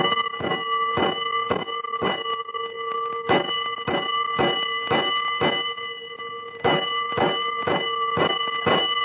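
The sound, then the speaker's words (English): A fire alarm bell strikes in a quick run of five clanging rings, signalling a five-alarm fire, then repeats the five-stroke pattern twice more after short pauses, loud and ringing with no voices. “Five bells. Stand by all stations. Attention, all districts. A five-alarm fire.”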